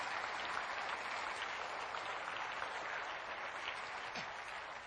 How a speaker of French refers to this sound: Applaudissez un moment la bonté de Dieu.